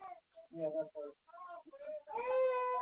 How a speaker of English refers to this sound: Oh, I'm coming for you. She's screaming.